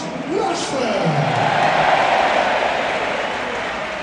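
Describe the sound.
A large football crowd at the Stretford End sings a chant of "United, United" together after a penalty is scored, many voices rising and falling in a loose melody over a steady roar that holds loud for the whole few seconds.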